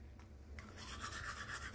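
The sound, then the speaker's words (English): Rapid scrubbing of a toothbrush against teeth after chewing a toothpaste tablet that bubbles up like toothpaste, a steady wet bristly rasp that starts softly and grows louder and busier, with no talking. “It's bubbling up just like toothpaste.”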